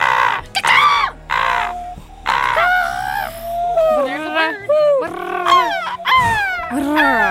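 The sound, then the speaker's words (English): Several people loudly mimic bird calls for a 30-second round, overlapping squawks, caws and warbling whistles in quick succession, continuous with hardly a pause. “Right now it's 30 seconds of bird noises, everybody.”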